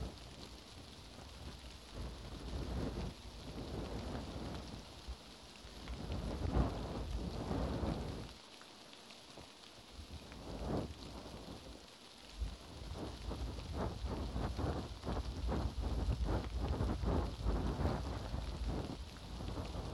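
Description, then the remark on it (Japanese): Steady rain pours down continuously, a dense hiss with pattering drops, while low rumbles of thunder swell and fade in the background. No one speaks. “でも雨が止んだら君は帰っちゃうのか。”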